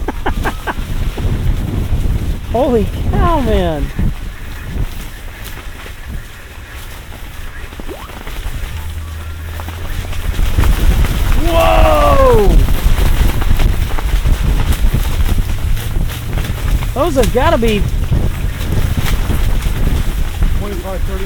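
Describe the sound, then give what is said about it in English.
Strong gusty wind in a gale, with 25-30 mile an hour gusts, buffets the microphone in a constant low, rumbling roar that grows louder partway through, with people talking and exclaiming over it. “25-30 mile an hour gusts.”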